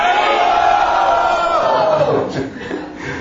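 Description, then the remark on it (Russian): A large crowd loudly shouts the chant "Hari Bol" together, a sustained roar of many voices that breaks up after about two seconds into scattered, fading shouts. “Громко крикните «Хари Бол».”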